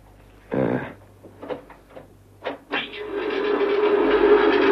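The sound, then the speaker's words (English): Several short, irregular knocks of the Mark V tapping code, a trick Morse device used by prisoners of war, played back on a recording, followed by a steadily building mechanical rumble, like a passing train, that swells and drowns out the taps. No one speaks. “It's the Mark V tapping code, a sort of trick Morse device so that man could communicate with each other in prisoner of war camps.”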